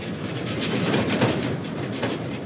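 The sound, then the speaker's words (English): A flatbed truck rattles and squeaks as it drives through the desert where there is no road, a steady loud clatter of loose metal over a deep, continuous rumble, with no voices. “This is the rattling and the squeaking of a flatbed truck.”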